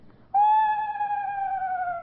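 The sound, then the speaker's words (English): A screech owl call: one sustained, slightly wavering tone that starts abruptly and slowly slides downward in pitch over about two seconds. It is loud and clear with no talking. “The difference is that the screech owl just has a descending cadence like this.”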